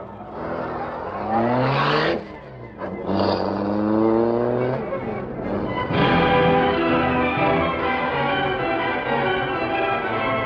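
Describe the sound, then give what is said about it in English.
The engine of the car Black Beauty fires up and revs loudly in two rising surges, then settles into a steady, powerful roar as the car pulls away to follow another car and keeps driving. “All right, start the Black Beauty.”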